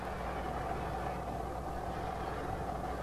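A car engine idles steadily with a constant low rumble and hum, muffled behind a locked door leading to a garage, unchanging throughout with no voices.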